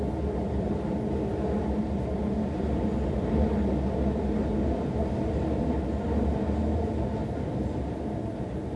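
Steady low rumble and rattle of a subway car in motion, a continuous dense roar filling the space from start to finish with no voices, loud and close as if heard from inside the carriage.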